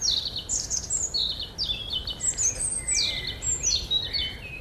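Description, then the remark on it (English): A robin sings a continuous string of high, thin, warbling phrases with brief pauses between them, clear over a steady low rumble of background noise. “In autumn and winter, both sexes can be heard producing elaborate songs to mark their respective territories.”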